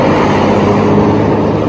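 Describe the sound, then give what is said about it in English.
A steady, loud wash of street traffic on Medford Street on a mild night, including a motorcycle, with a broad rumble of engines and tires passing and no voices over it. “All sorts of traffic.”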